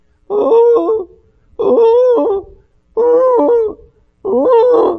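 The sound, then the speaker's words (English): Four low, mournful dove coos repeat at a steady pace with brief pauses between them, each a soft warbling hoot, clear with no other sounds. “Because then he describes it again when he says, mourning like doves.”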